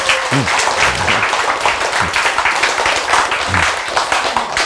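A crowd applauds steadily, a dense wash of many hands clapping at a constant loudness throughout, with a few faint voices and cheers mixed in underneath.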